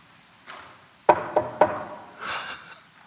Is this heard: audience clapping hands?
no